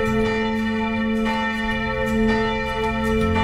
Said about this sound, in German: Zum ersten Mal seit 8 Wochen haben die Glocken zu einem Gottesdienst in die Kirchen eingeladen, bei dem viele Christen wieder gemeinsam feiern konnten.